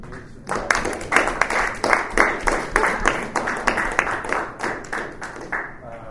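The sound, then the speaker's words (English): A crowd of people breaks into applause, a dense, steady patter of many hands clapping for several seconds at a fairly loud level before it begins to thin out. “I'd like to applaud.”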